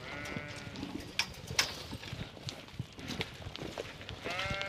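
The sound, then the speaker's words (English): About ten Suffolk rams bleat outdoors in a farm paddock, wavering calls overlapping at the start and again near the end, with scattered thumps and rustling in between; the bleats are moderately loud. “Now we've walked over to a paddock where you have your Suffolk rams.”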